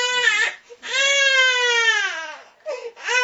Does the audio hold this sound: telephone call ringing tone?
no